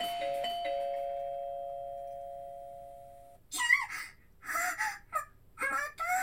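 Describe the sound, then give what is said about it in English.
A front-door doorbell chimes with a quick two-note ding-dong, its clear tone ringing out and slowly fading for about three seconds, followed by several short, breathy vocal bursts. “What fucking brat is at my door?!”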